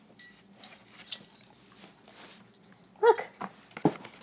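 A dog named Zappa sniffs a music-playing card in soft, rapid, breathy bursts, then lets out a short, high whimper followed by another quick snuffle. No one speaks.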